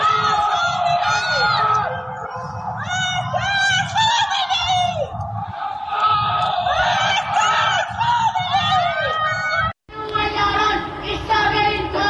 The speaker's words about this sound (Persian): در یکی از ویدیوهای منتشر شده معترضان از پنجره فریاد مرگ بر خامنه ای سر می دهند، در حالی که در پس زمینه آتشبازی جمهوری اسلامی به مناسبت سالگرد انقلاب 57 دیده می شود.